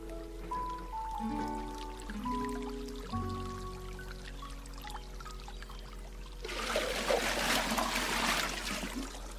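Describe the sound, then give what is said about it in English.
Soft tonal music plays at first, then a steady rush of water pours in for the last few seconds as a watering can is filled at a fountain, continuous. “Enough water. Watering can full, added to backpack.”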